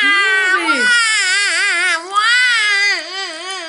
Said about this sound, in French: un bruit que je ne connaissais pas. Je me suis approchée de la rivière et en écartant les feuilles de roseau, je l'ai vu. Un tout petit bébé d'homme allongé dans son couffin et qui pleurait.